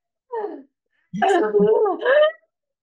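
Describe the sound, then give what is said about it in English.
A person demonstrates the shallow, sharp gasping inhale kids take when told to take a breath, fairly loud: a brief catch of breath, then a longer strained, voiced gasp with a tight, breathy quality. “It's not just like, sometimes we just say to the kids, like, just take a breath. But the breath that they take is like this.”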